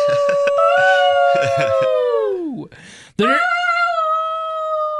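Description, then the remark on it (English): A loud wolf howl rises and wavers, dips into a brief rough, noisy break, then swells into another long, steady howl that holds to the end. No talking accompanies it. “Was that a turkey wolf? I heard a gobble in there.”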